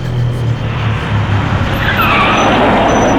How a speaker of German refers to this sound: Plötzlich hielt ein Bus an der Haltestelle.